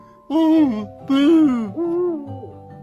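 An owl hoots four times in close succession, each call a loud, clear, wavering note that dips in pitch, with the final hoot softer and shorter. No one speaks.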